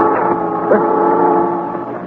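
A ship's foghorn blows one long, steady, loud blast, a deep droning tone that holds unbroken throughout, with no voices heard.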